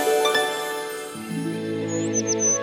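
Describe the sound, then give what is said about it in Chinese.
A few quick, high chirps of small birds singing flutter in near the end, sitting on top of a steady, sustained musical tone that fills the background throughout. “小鸟 bird 唱起歌”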